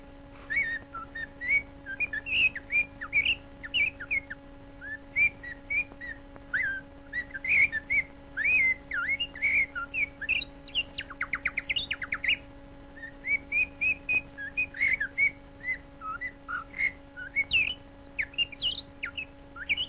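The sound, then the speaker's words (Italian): A male blackbird sings its love call in dense woodland, a long run of fluting, whistled phrases, each short and varied, repeating with brief pauses throughout, with a faint steady hum underneath and no talking. “Il canto del merlo maschio nel folto del bosco, il suo richiamo d'amore.”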